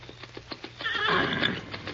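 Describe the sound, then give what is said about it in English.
A stallion named Silver gives a loud, shrill whinny, preceded by a quick run of hoof clops on hard ground, with more hoofbeats continuing faintly underneath. “Man alive, what a horse.”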